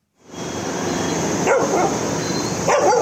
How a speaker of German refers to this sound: Sie liegen kreuz und quer, gerne auch mal mitten auf der Straße. Und wenn ein Auto sie weghupt, bellen sie es einfach an. Delhis Straßenhunde sind überall.